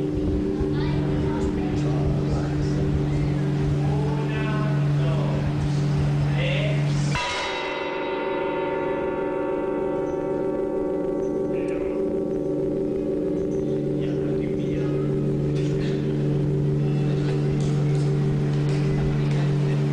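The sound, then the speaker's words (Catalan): Church bells ring during bell-ringing (campanology) days with a dense, sustained hum of overlapping tones. Midway a loud new strike lands, its bright metallic overtones shimmering and slowly fading while the deep drone continues beneath. “si et sembla, et posem tres sons de campanes i ens expliques una mica què et suggereixen i si t'ajuden a situar-nos en les jornades de campanologia, d'acord?”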